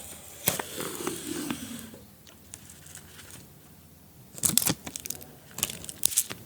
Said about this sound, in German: Warm machen für die neue Ausgabe und vielleicht noch ein bisschen Tesafilm abziehen.